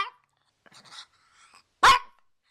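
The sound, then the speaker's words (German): A Pekingese dog, a short-headed breed with a relatively flat face and domed skull, gives one sharp, loud bark, preceded by a clipped yap at the start and a few soft whimpering, snuffling sounds in between. “Ein putziger Kerl, dieser Pekingese oder Pekinese, wie er bei uns meist genannt wird.”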